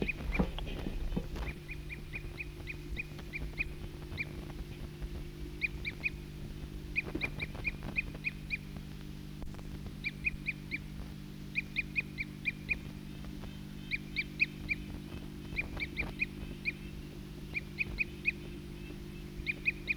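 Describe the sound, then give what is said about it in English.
A flock of about eight birds gives short, bright, high calls in quick clustered bursts, repeating throughout over a steady low hum, with no one talking. “Recording the same bird.”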